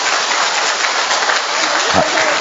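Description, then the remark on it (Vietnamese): A large church audience applauds loudly, a dense, steady wash of many hands clapping together that fills the whole moment without pause, enveloping, with no voices standing out. “Một tràng pháo tay thật to thưa anh chị em.”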